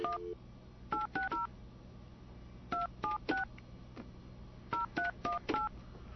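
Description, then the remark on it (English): Touch-tone telephone dialing for a live call to Dunkin' Donuts on Queen Street, Southington, Connecticut: quick, evenly spaced dual-pitched beeps come in three bursts of about four digits each, separated by short pauses over a low, steady hum. “We haven't done a lot of these live calls yet with this system.”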